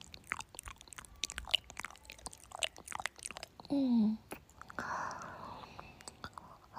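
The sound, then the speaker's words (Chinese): Wet tongue kissing sounds: a quick, irregular stream of soft smacks and slurps, with a short low hum partway through and quieter wet mouth noises after it. Nobody speaks. “听舌头搅拌在一起的声音。”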